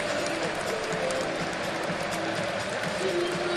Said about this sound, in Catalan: Com canta la grada grogueta, com aplaudeixen, sobretot al Viol i a Pau, Foyt. Aplaudiments del jugador del Villarreal a la seva gent. Càntics de la grada.